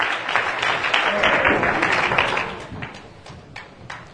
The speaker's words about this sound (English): Go ahead and clap your hands and you may be seated.